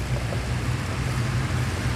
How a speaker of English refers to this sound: In Illinois, right at the bridge, if you look off to the right, you can see and you can certainly hear these huge orange and black pumps. There's 36 of them, and they're pumping 72 to 75 million gallons of water back into the Mississippi every day.